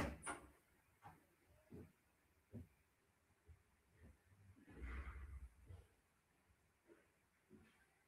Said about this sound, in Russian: Одну секунду, я дверь открою там.